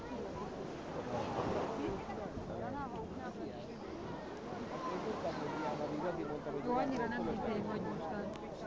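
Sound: sea waves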